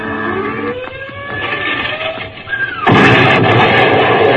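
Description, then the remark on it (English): A "robot" rocket bomb whistles in with several falling tones over a low rumble, then bursts into a loud, sustained explosion with a wide, crackling roar that fills the last second and a half. “Bust those jellies with their rocket bombs.”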